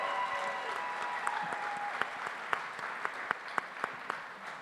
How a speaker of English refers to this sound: Can we give them a real round of applause? Because they're still all looking shocked.